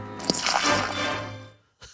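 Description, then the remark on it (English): Gatorade pours steadily into a cup for over a second, gurgling and fizzing, then stops; after a short pause the cup is splashed over a man's face. No one speaks. “So in that clip, you hear the pouring. He's pouring a cup of Gatorade, and then he says he has a drinking problem and just splashes the cup all over his face.”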